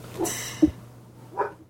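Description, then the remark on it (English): A dog, Missy, lets out a few short, scattered barks, with a brief yelp-like bark near the end, over a low steady background hum and no talking. “I'm gonna wait till your dog stops.”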